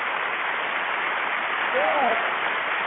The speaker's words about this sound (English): Yeah. Oh, yeah, I like that clap.